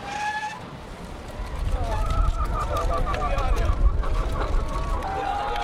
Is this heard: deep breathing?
no